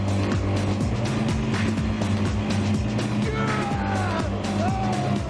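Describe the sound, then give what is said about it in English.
Loud, steady engine roar from racing amphibious vehicles in the water, the Rocker's prop-powered amphibike and a double-decker boat, with a clattering collision partway through that stalls the double-decker's boat, and whining, sliding engine tones afterward. No one speaks. “But the Rocker's prop-powered amphibike is beginning to take the lead. Oh no, they've collided!”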